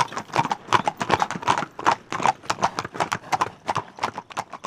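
Horses' hooves clip-clop in a brisk, steady rhythm, with a quick run of sharp, hollow knocks that continues evenly throughout and no voices.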